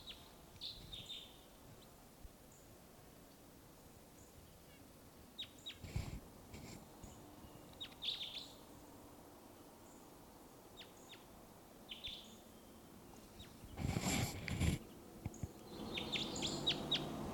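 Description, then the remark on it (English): A wild bird gives faint, short high-pitched chirps at scattered intervals over a quiet background, with a few brief bursts of rustling or wind noise and no one speaking. “Wild Bird here.”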